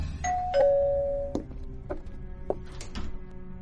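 A two-note doorbell chime rings out clearly at a house, its second tone lingering and fading, followed by a few scattered soft knocks and clicks, then quiet.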